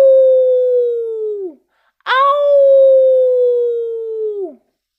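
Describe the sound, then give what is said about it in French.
Two long, steady wolf howls in the darkness of night, one after another with a short pause between; each holds a clear mournful tone before sliding down and fading. The second starts with a sharp rise. “Et soudain, comme pour confirmer les paroles du grand sage, des hurlements de loups retentirent quelque part dans l'obscurité de la nuit.”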